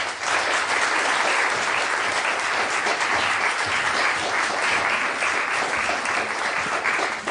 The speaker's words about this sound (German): Bitte begrüßen Sie sie mit einem großen Applaus, Antje Ravik-Strubel.